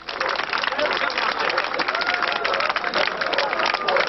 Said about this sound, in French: Le cadenas est cassé et les portes s'ouvrent. Vers 23h la nuit dernière, des milliers d'Allemands de l'Est ont forcé les frontières qui séparaient l'Est et l'Ouest. Les gardes-frontières n'interviennent pas.